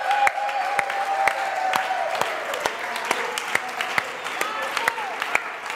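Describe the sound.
Steady audience applause for a drummer and bass player, given at a sermon: many hands clapping at once, a dense continuous patter with sharper individual claps standing out, plus a faint murmur of voices underneath.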